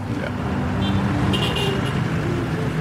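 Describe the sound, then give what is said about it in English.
Steady rumble of dense road traffic on the island of Bali with engines droning, and a couple of brief car horn toots cutting through midway. “It's really huge, because you see the traffic, how crazy it is.”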